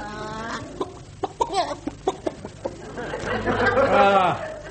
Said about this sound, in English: Faithful old hen.